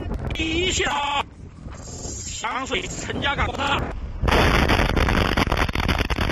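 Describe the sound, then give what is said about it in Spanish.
Raised voices shout in the open before a huge chemical plant explosion erupts in an industrial park in Shenzhen, China, its loud, sustained roaring blast filling the last couple of seconds and drowning out everything else. “No para de ascender el número de víctimas tras la explosión de una planta química en un polígono industrial.”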